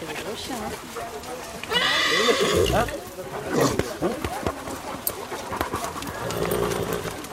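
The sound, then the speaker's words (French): A horse ridden by the master of hounds whinnies once, a loud, shaky neigh of about a second that rises and falls, amid outdoor commotion among hunting dogs, with people talking and dogs panting. “Au milieu des chiens, juste derrière le maître d'équipage qui est à cheval.”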